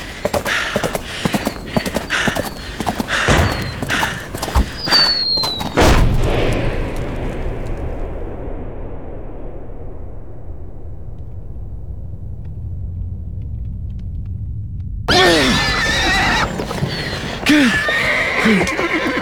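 horse galloping and neighing

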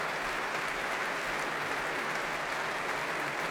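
concert audience applause

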